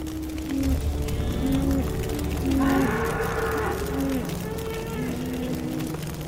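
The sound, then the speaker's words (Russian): Cows moo in long, mournful, drawn-out calls that overlap one another, several animals lowing repeatedly over a steady background rumble; a herd of goats, buffaloes and cows in a reed thicket in a forest, tormented by thirst as a forest fire approaches. “В это время в лесу по соседству начался пожар, и животные, измученные жаждой от приближающегося пламени, стали жалобно мычать.”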